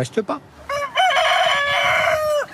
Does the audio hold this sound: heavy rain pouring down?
no